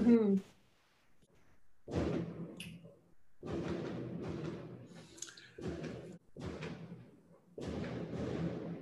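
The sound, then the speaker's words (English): Fireworks go off in a series of muffled booms and crackling rumbles, arriving in irregular bursts separated by brief lulls, fairly faint overall. “Oh, did you fireworks? Hear them? Oh, yes, is fireworks.”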